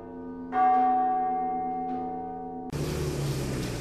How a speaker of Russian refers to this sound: Но самое чудесное здесь время, когда оба города наконец-то соединяются без всяких мостов и переправ, это когда колокола зовут людей на службу. И оба берега соединяются в перекличке звонарей.